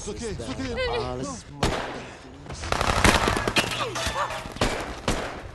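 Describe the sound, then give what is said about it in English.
Rapid bursts of gunfire crackle through a chaotic film battle scene, with heavier explosions booming and a voice shouting at the start amid the din. “You have explosions, you have extras, you have stunts, you have tanks.”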